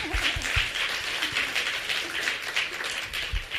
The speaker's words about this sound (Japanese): Give them a hand. They did great. You guys can go sit down. この二人に拍手をお願いします。